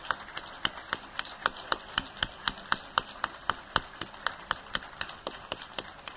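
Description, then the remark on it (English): Steady rhythmic clapping at a Philadelphia Society meeting, applauding the society's new president: a sharp clap roughly three or four times a second for about six seconds, sounding like only one or a few people applauding. There is no talking. “and I think we should have a round of applause.”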